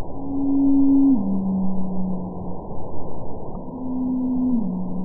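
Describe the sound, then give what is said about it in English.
Two blue whale calls, one from 2002 followed by one from 2017, each a long, low, steady moan that drops to a slightly deeper pitch partway through, over a rumbling underwater hiss. “For example, here's a call from 2002, followed by one from 2017.”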